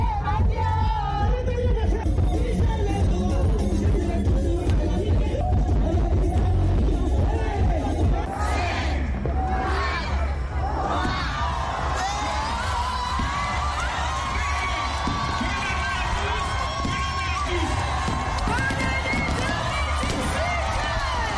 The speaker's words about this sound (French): Enfin, 2018 est là. Il est minuit. Des cris de joie retentissent de toutes parts.